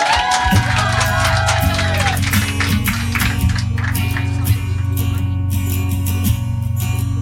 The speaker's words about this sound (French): ses copines, on peut les applaudir.